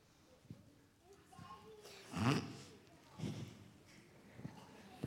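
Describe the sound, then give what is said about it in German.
A couple of wet, snorting sniffles, the loudest burst in the middle followed by a shorter one, with faint breathy noises around them. “Du solltest dir mal besser die Nase putzen.”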